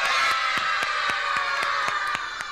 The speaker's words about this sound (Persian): حالا برشون یه هورای بلند.